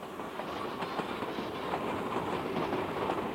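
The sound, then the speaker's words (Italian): A train crosses the Brenner Pass at night in March 1943, rumbling steadily along the rails, its wheels clattering in a continuous, fairly loud rhythm with faint metallic clicks over the track joints, and no voices. “Il mio treno valicò il Brennero la notte del 19 marzo 1943, giorno di San Giuseppe.”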